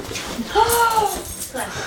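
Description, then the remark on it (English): A chubby Boston Terrier lets out a short, high whining whimper lasting about half a second while stretching on its hind legs to reach a child's plate, over a low murmur of muffled background voices. “a chubby Boston Terrier stretches on hind legs to reach”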